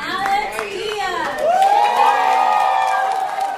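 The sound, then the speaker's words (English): Families cheer on the students at a College Bound Dorchester graduation ceremony, with overlapping shouts and high whoops rising into a sustained, loud wave of voices before easing off slightly. “Over the summer, she was among the many families cheering on her brother and all the students at a college-bound Dorchester graduation ceremony.”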